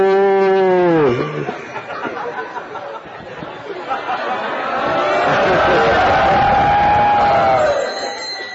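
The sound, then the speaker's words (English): Cows moo loudly, a deep drawn-out low followed later by a longer, wavering moo, with murmuring voices and general crowd noise in the background. “Which group? Group of cows. And what are those cows doing? Rambamana.”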